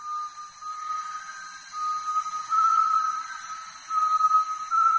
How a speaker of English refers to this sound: It's the voice of a great tinamou. Secretive, and almost impossible to see. Great tinamous call early and late in the day, and their voices carry a long distance.